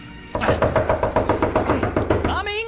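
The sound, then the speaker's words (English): Rapid, insistent knocking on a door, a steady string of a dozen or so sharp raps, followed at the end by a brief vocal sound. “Whoever you are, you sure have a nice knocker.”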